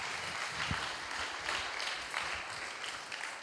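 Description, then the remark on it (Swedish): An audience applauds steadily, a dense wash of many hands clapping at an even level for several seconds with no voices over it. “En applåd.”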